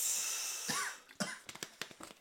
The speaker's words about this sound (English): And then you're going to cough every time you take a drink of my drink.